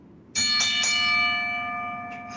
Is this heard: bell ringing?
yes